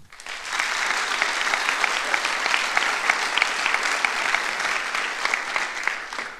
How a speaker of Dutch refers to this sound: En ik ben zo vrij om op deze eerste verjaardag van Stijgers een applaus te vragen voor al het werk dat deze mensen hebben gedaan.